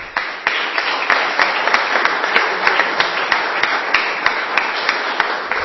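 An audience at a public event applauds steadily after a thank-you speech, a dense wash of many hands clapping with a few sharper individual claps popping out above it, sustained at an even level throughout with no one speaking.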